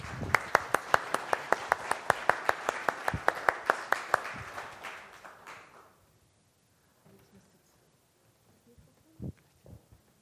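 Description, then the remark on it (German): Audience applause for the helpers who made the event possible: a steady burst of many hands clapping, with a few sharp louder claps standing out, tapering off after about five seconds into near silence with faint shuffling. “Okay, ihr müsstet eigentlich alle hier vorne stehen und den Applaus bekommen, weil ohne euch wäre das überhaupt nicht möglich gewesen.”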